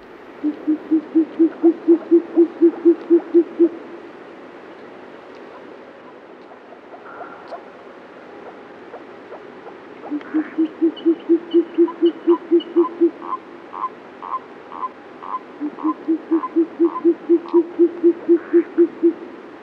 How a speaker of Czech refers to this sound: Hlas tokajícího samce sovy pustovky není u nás právě běžný zjev. Kalous pustovka, jak je zoologický název této sovy, je světlá sova menší velikosti s krátkými pernatými oušky. Je to druh hnízdící hlavně na tundrách severní Evropy, Asie i Ameriky.